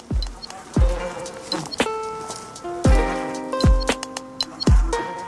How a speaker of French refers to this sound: Entrer au cœur d'une ruche et écouter le rythme de vie des abeilles